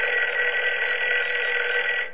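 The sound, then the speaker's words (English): A telephone rings in one continuous, steady burst lasting about two seconds, with a thin, tinny quality as if heard over a phone line, then cuts off. No one speaks. “Your phone is ringing.”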